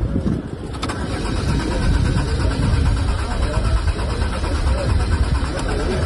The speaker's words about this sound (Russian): Тот же Герман Греф дважды безуспешно пытался завести презентованный на форуме автомобиль «Лада Аура» и потом разочарованно вылез из машины.